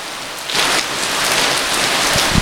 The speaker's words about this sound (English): We're in a bit of a downpour here. Look at this. I willed this on myself.